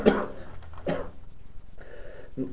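Several short coughs break out, spaced unevenly across a few seconds, fairly soft, with no one speaking.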